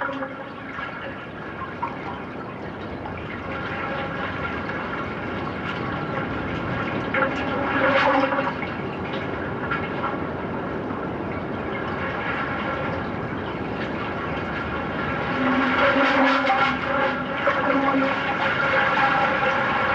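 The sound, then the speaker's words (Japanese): Waves echoing up through several thumb-sized holes in harbor asphalt, heard with an ear held to the holes: a steady hollow rushing with resonant droning tones, swelling louder twice as the water surges beneath. No voices. “港のアスファルトには親指が入るぐらいのいくつかの穴が開いていて、そこに耳を傾けると普段の波とは全く違う音が聞こえてきます。”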